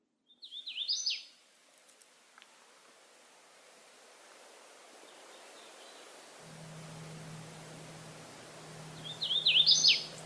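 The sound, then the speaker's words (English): A hooded warbler sings two brief, bright, whistled phrases, one near the start and one at the end, over a steady rushing background and a faint low hum. “We're going to look at the hooded warbler. In today's episode, we're going to profile a thicket-loving songbird that sings the following song.”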